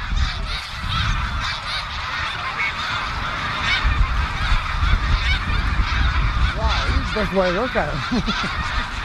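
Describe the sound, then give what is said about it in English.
A huge flock of thousands of snow geese honks continuously as the birds rise up from the ground, a dense overlapping chorus of nasal calls, with a louder cluster of distinct honks rising near the end over a steady rumbling background. “It was as if the ground where the snow geese were had been covered with snow”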